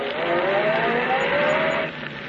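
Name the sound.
taxi driving away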